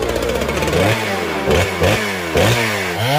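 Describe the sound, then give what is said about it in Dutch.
A power saw runs loud, its motor whining and revving in repeated surges, pitch dipping and climbing again several times in a few seconds. “Echt een middag gezaagd, dames en heren.”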